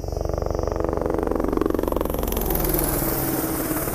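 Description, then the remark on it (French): A medical helicopter arrives, coming in from behind, its rotor beating out a rapid, steady thudding over a loud engine roar, with a hissing whine growing brighter in the second half. No one speaks. “Là, on entend qu'il arrive derrière.”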